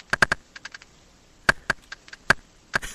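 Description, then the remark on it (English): A video game's magic tree sound effect: bursts of sharp, dry clicking taps in an irregular rhythm, moderately loud, much like rapid keyboard typing, with no voices. “No, that's what the magic trees sound like.”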